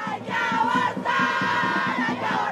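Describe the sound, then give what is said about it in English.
A crowd of pro-choice demonstrators outside a court building in Colombia shouts loudly in unison, "We have to abort this patriarchal system", their raised voices forming a sustained, chant-like roar that briefly dips in three short pauses. “Outside the building, pro-choice demonstrators shouted, "We have to abort this patriarchal system."”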